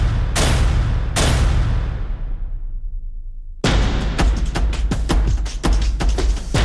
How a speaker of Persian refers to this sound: با شلیک مستقیم به سر معترضان، به بدن شهروندان، بی پرواتر از همیشه در نمایش خشونتی اوریان، با رگبار در خیابان، تک تیرانداز بر بام، ادوات زرهی در جاده و نشان رفتن تصادفی پناه بردگان به نیزار با تیربارهای جنگی